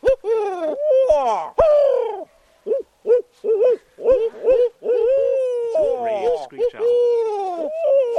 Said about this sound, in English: members cock their heads in unison and whisper, great horned. Did you hear the horned owl? He just did it again. Okay. It's worth 3 points, but only if four of the team members can positively identify it. So they wait and hope the owl comes closer.